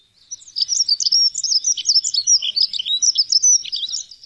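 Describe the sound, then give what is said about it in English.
A dunnock (hedge sparrow), a garden bird, sings a rapid, high-pitched warbling phrase, a continuous jumble of thin notes lasting a few seconds, clear with no other sounds or voices. “the sound of the dunnock isn't really that distinctive. Let's have a listen to it.”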